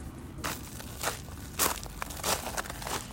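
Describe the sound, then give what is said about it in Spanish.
Footsteps crunch across small gravel stones at a steady walking pace as someone walks away from their house on a cold morning, about 5 degrees, around 7 a.m. About five gritty, crackling steps are spaced roughly half a second apart over a low background rumble, with no voices. “Ahí vienen las piedritas famosas.”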